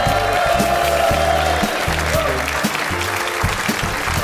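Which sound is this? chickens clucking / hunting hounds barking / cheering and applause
cheering and applause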